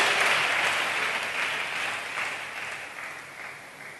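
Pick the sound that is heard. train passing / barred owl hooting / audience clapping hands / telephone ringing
audience clapping hands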